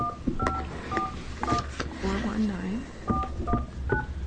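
A series of short telephone keypad tones, about six or seven, come in two quick clusters with a pause between as a phone number is dialed to call a professional outfitter and guide, over a steady background hum and faint murmuring.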